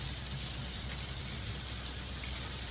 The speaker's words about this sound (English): On top of everything, it has to rain.